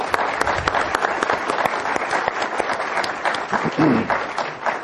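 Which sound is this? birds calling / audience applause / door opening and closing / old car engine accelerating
audience applause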